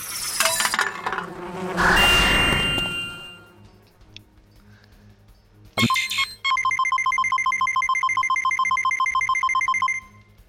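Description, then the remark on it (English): A loud, dense buzzing of a bee swarm swells up and then fades, followed by a steady, rapidly pulsing high drone that holds for several seconds before stopping abruptly. “Lots of bees.”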